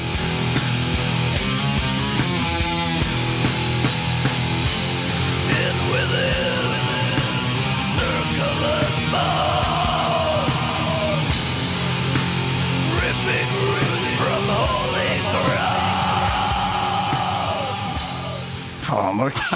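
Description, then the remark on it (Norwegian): A hard, aggressive music track, extra hard music put on for running in the rain, plays loudly, a dense wall of distorted sound with shouted, yelling vocals over it, steady throughout before dipping slightly at the very end. “hvis jeg skal ut og løpe, og det er litt sånn, hvis det regner for eksempel, så har jeg gjort et sånn greie at jeg setter på liksom litt sånn ekstra hard musikk bare for å gjøre det liksom verre.”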